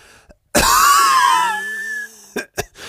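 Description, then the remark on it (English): A loud cough that drags out into a raspy, rattling rasp in the throat for over a second, followed by two short, sharp coughs. “It's like this rattling whenever I cough.”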